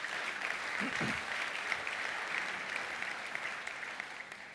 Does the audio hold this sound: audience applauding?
yes